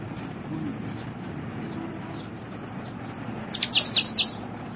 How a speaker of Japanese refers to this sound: 存分に喉を潤したんだろう。なんという鳥だろう。